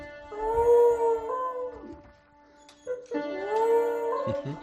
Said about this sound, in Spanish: El perro es él el que toca el piano y está cantando al mismo tiempo. Bueno, igual le falta un poquito de entonación y de ritmo, pero Buddy se ha convertido en todo un rockero famoso.